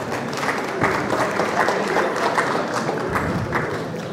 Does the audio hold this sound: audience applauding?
yes